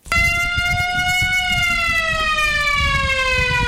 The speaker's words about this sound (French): La sirène qui vient de retentir à 8h au lycée moderne Akoto Yao de Sakassou donne ainsi le coup d'envoi des épreuves écrites de l'examen du baccalauréat session 2023 dans la région de Gbeke.